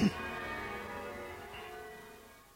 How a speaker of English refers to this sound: and particularly we thank you for the life and witness of Tom and Prue Forrest, in whose memory we dedicate these bells.